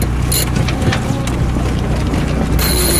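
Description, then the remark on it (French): A sailboat winch ratchets in quick, uneven bursts of clicking as the mainsail is hoisted off Cap Nègre in a light wind, fairly loud over a steady low engine rumble and wind. “Devant nous, le Cap Nègre un petit peu sur notre bâbord, on va directement dans la fosse, petit vent, on va mettre les voiles, arrêter le moteur, grand voile d'abord.”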